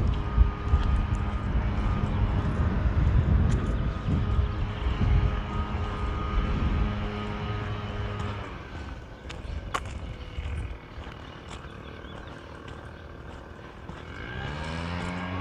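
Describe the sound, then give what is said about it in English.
A leaf blower runs outside with a steady, loud engine drone full of buzzing harmonics. It eases off a little partway through, then its pitch revs upward near the end. “You probably can already hear the leaf blower.”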